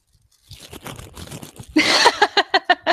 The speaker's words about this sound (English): I know she's been working on some tissue paper and some patterns over there, so it's just like crinkle, crinkle, crinkle.